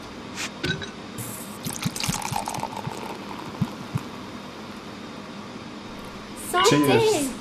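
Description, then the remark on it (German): Champagne pours into a glass on a Premier Class flight, with a rising, gurgling fill near the end, after a stretch of soft clinks and faint background murmur; fairly loud during the pour. “Entschuldigung, Fräulein, könnte man eine Flasche Champagner haben?”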